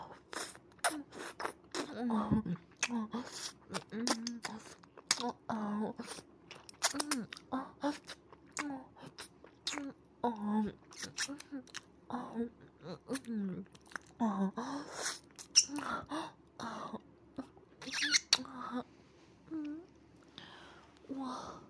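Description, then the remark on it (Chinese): Wet mouth sounds of licking an ear, with irregular smacks and slurps repeating throughout, moderately loud and intimate, with soft breathy noises between them. “我不自觉的竟然舔起了你的耳朵，像母狗一样发了情。”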